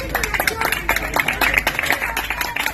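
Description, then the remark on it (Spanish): A crowd claps steadily for a few seconds, a dense, continuous patter of many hands that stays fairly loud and even from start to finish. “Un aplauso.”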